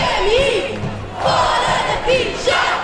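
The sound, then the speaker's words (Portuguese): A protest crowd in Portugal, demonstrating against government austerity measures, shouts together in loud, overlapping bursts, chanting "Esta dívida não é nossa!" (This debt is not ours!), voices rising and falling in a chanting rhythm with no single speaker standing out. “Os indignados gritaram alto que nada tem a ver com a dívida externa portuguesa, dizia um cartaz de 388 mil milhões de euros.”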